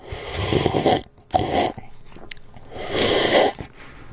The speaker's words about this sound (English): Quite a slurp.